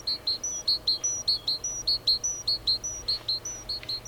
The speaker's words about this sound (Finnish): Metsästä kaikuu tuttu ääni. Talitiainen tanssii puiden latvustoissa, tuoden metsän näkyvää ja kuuluvaa ääntä.